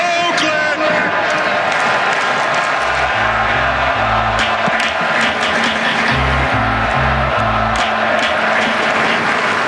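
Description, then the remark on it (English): A huge baseball crowd at the Coliseum stadium roars and cheers loudly throughout, with a rhythmic chant-like pattern of deep pulsing tones rising out of the din twice in quick bursts, doing the 'Let's go' cheer started by manager Mark Kotze. “And I ask you for one more time to start the greatest cheer in baseball.”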